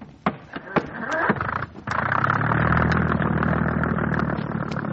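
A motorboat engine cranks with a few sharp clicks and sputters, catches after a brief pause, then settles into a steady, rumbling idle that continues to the end.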